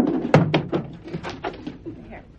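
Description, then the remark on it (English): A closet door is pulled open with a sharp thunk, followed by a few lighter knocks and rattles, while faint voices murmur underneath. “Y'all, go ahead and get the chair and come to the closet. Hurry, girls. Quick, they'll be here. Come on, open the closet door.”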